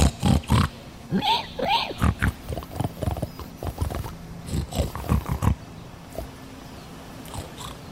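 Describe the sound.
People imitate a pig, speaking in Hog Latin, with a string of short, snuffling grunts and snorts in a quick irregular rhythm, done gently and quietly, trailing off into near quiet over the last couple of seconds.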